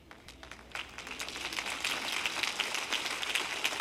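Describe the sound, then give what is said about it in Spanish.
Thin, scattered audience applause: a light patter of claps that builds slightly and stays fairly quiet and sparse throughout, with no one speaking. “¡Qué aplauso tan débil!”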